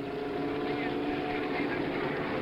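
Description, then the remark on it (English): Race cars roaring away at the race start as the pace car pulls off, with Mario Andretti and Dan Gurney at the front: a loud, unbroken engine drone with a steady buzzing, tonal hum that holds its level for the whole stretch. “The pace car pulling off, and there they go behind us. We're going to get a start.”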